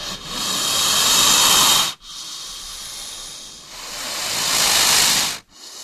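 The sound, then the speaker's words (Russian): A snake hisses defensively before an attack in long, forceful bursts of breathy exhaled air, each swelling then cutting off abruptly, with a short pause before the next. Fairly loud, no voices. “Шипение змеи перед атакой.”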